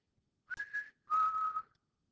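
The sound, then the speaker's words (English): A person whistles an imitation of a bird that calls at their house: two clear, steady notes, the first short and higher, the second longer and slightly lower, with no talking. “At our house, there's a bird. I don't know if I can do it. It goes.”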